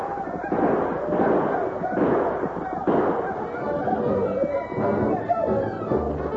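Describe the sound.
Rifle gunfire as Indians charge a wagon barricade defended by four men: loud, sharp shots crack out roughly every second in an irregular volley, over a dense, continuous roar of yelling, screaming voices and commotion.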